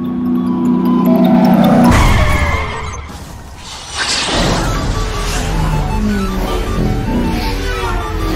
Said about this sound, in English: Ah, here comes the ice cream truck.